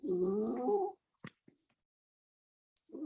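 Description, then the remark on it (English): A cat lets out a long, drawn-out meow, then a few short clicks and a pause before another meow starts at the end; clear with no one talking. “I think I also hear a cat.”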